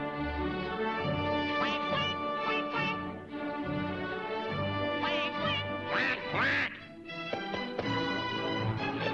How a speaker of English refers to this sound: It's basically, it's a mother swan and her three baby swans, going the quack quack, and then Daffy comes up behind them and out of character does the wah wah.